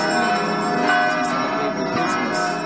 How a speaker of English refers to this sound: The bells of Christmas rang in Bethlehem, as we hear in this report from Linda Gradstein.